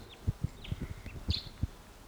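A wild bird, perched about 150 or 200 yards away, calls in the distance, a few faint, high chirps spread over two seconds, with soft low thumps sounding underneath.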